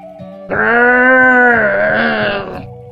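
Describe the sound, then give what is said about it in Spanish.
A little puma's attempted terrible roar, without echo, comes out as a single drawn-out, meow-like cry lasting about two seconds, loud and tonal with a steady mid pitch that wavers slightly before fading. “Pero sin el eco producido por el tronco hueco, sonó más como un maullido.”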